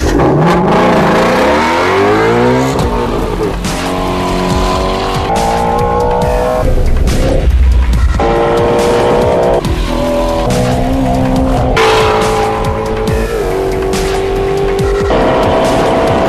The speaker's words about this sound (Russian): Компания Ford распространила видеоролик со звуком 5,2-литрового атмосферного двигателя атмосферной восьмерки купе Shelby GT350R, раскручивающийся до 8000 оборотов в минуту. Нужно сказать, что на тахометре есть отсечка и для 9000 оборотов в минуту.